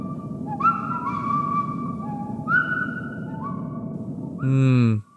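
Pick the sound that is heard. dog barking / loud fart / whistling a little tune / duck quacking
whistling a little tune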